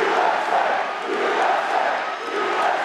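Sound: rally crowd cheering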